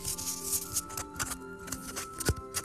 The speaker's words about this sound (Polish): Czyli ja sobie tutaj położę moją rolkę na kartce i przytnę tę kartkę na taką szerokość, jak ma rolka.